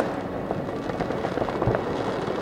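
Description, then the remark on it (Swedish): Fireworks crackle and pop continuously on New Year's Eve 2012, a dense rolling barrage of bursts with no single dominant bang and no voices, exploding below a seventh-floor apartment window in Lindängen, a residential area of yellow-brick high-rises and low-rises south of the city centre. “Nedanför honom exploderar fyrverkerier.”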